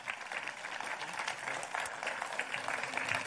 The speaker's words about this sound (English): So can we give her a big round of applause as she comes up?